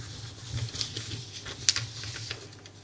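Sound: paper rustling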